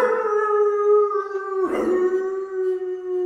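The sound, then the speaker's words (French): A dog howls in one long, steady, mournful note that barely wavers, with a brief rough catch partway through before the howl carries on. It is fairly loud, with no voices. “Ce chien, il aboie comme n'importe quel chien.”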